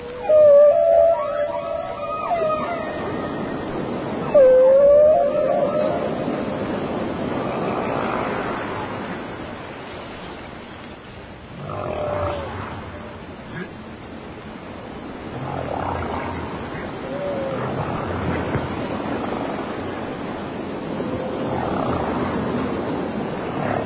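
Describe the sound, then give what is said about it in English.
Whale calls: wavering, tonal moans and a sharp rising whoop, followed by softer groans drifting over a steady low, rushing underwater rumble, with no one speaking. “Oh, that is very, very, very, very interesting, Mr. Whale.”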